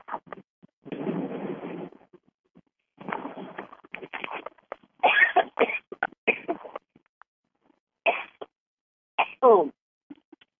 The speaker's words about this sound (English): He knows your sneeze. God bless you.